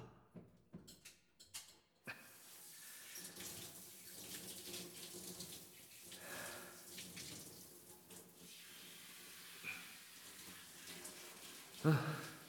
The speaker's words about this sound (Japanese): 今シャワーで流すよ。